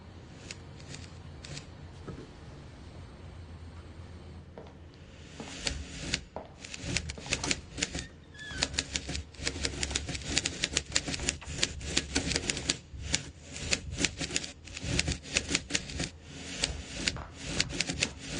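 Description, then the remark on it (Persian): Rapid, clattering typewriter keystrokes in steady bursts, fairly loud, with a quieter stretch of faint tapping before the typing picks up, as the same sentence is typed over and over. No one speaks. “من صدای کلیدا رو شنیدم. همش داره یه جمله رو مینویسه.”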